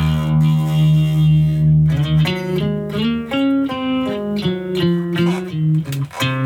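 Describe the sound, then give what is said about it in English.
An experimental bass amp effect called Alien Waves, from the experimental bass folder in Logic: a buzzing, heavily processed tone holds one droning note, then breaks into a quick series of warbling, pulsing notes stepping up and down in pitch, with no talking. “Now, this is, I've got Alien Waves, ooh, which is in the experimental bass folder.”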